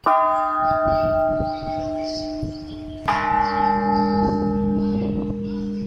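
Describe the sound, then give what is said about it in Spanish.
Two large church bells, bells 3 and 4 on the east-facing side of a cathedral tower, are struck one after the other, each ringing out with a rich, sustained hum that lingers and overlaps; the second bell sounds deeper and slightly louder. “Vista al oriente, campanas 3 y 4.”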